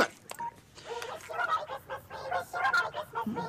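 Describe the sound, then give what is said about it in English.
A phone rings with a string of short electronic tones, chirpy beeps repeating in a quick, uneven rhythm, moderately loud with no one speaking over it. “I'm not answering that. I'm putting the phone in my pocket.”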